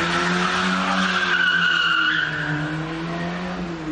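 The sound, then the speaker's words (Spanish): A getaway car with two thieves who had just robbed a jewellery shop in Moreda speeds off in the early hours of 31 October, its tires skidding, a loud, sustained high-pitched screech riding over a steady engine drone for about four seconds, with no voices. “Es la huida de dos ladrones que acaban de desvalijar una joyería en Moreda.”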